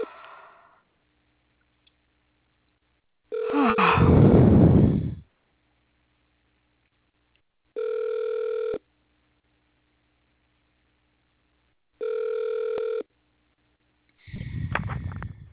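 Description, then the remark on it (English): A call to a delivery and installation driver support line rings out unanswered, with two identical ringback tones about four seconds apart. Louder, rough noisy bursts come before and after them. No one speaks. “Nobody won't answer the phone.”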